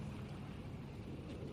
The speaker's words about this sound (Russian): Моторка тарахтя отошла от гавани.